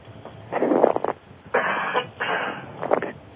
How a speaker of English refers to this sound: I had a tickle in my throat, and I was trying not to cough in your ear.